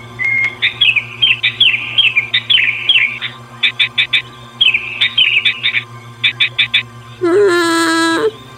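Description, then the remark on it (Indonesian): Birds chirp and tweet in quick, bright bursts and repeated trills, several calls overlapping in a lively chorus, ending with a louder, harsher squawking call. “Saat sedang makan, dia mendengar suara serombongan burung berkicau riang, bernyanyi tiada henti.”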